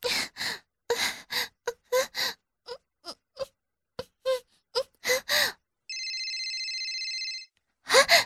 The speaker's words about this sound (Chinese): 这个声音是妈妈的手机响了呢。妈妈，妈妈，你的手机响了。有人给你打电话哦，谁知道呢？